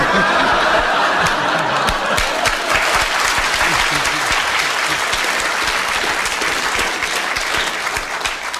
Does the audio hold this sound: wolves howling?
no